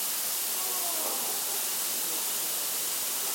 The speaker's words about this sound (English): Oh, don't get all wet in the sprinklers.